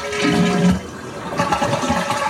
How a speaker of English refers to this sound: It's as soon as I push as soon as it starts releasing water out of the tank for the flush, I don't even have to push it all the way down. It's as soon as I hit the thing.